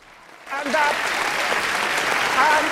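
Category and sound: human body sound, one person applauding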